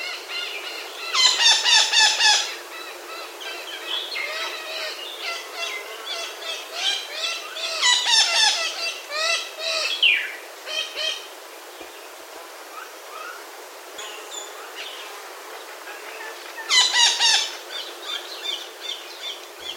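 Harsh, squawking calls of the echo parakeet (Mauritius parakeet), endemic to Mauritius, come in loud bursts, with rapid repeated notes and shriller chattering between them, sounding over a steady background hiss without any voices.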